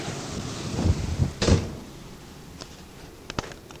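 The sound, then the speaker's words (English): Gusty typhoon wind roars and buffets, then a house door on the lee side is closed with a solid thud, followed by a few faint latch clicks and rattles as the wind noise eases. “I wouldn't have dared open this door if I hadn't been. I think I better close it.”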